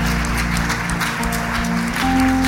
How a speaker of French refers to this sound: Est-ce qu'on peut les applaudir encore bien fort?